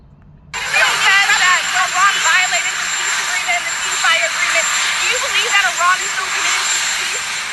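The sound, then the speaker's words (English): A helicopter engine runs loud and steady as Trump goes out to the helicopter, a constant roar and whine that kicks in abruptly, with voices talking over the noise throughout. “This is Trump going out to the helicopter.”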